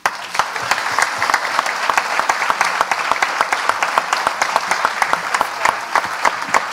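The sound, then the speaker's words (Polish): A crowd applauds the women who worked in the bookshop, many hands clapping steadily in a dense, continuous wash with sharper individual claps standing out, sustained at an even, fairly loud level throughout. “Brawa.”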